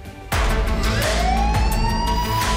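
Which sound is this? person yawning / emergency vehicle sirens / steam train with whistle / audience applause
emergency vehicle sirens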